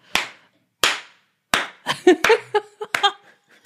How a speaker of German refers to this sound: Hat einen so pathetischen Slowclap. Ich habe gedacht, jetzt steht sie gleich auf. Klatscht den Rest der Show.